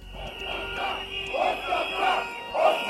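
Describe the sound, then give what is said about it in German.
A few hundred protesters in front of the government building in Skopje, demanding the resignation of Prime Minister Nikola Gruevski on a Wednesday evening, chant in loud, rhythmic bursts of many voices, the same short call repeating about every half second, with a steady high-pitched tone running underneath. “Ein paar hundert Demonstranten fordern den Rücktritt von Ministerpräsident Nikola Gruevski.”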